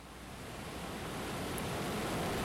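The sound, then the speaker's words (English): Ocean waves wash in with a steady, broad hiss that swells gradually louder over a couple of seconds, soft and continuous with no voices. “Keep breathing calmly with the waves.”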